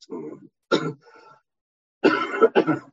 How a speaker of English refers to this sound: Trying not to cough in your face too much.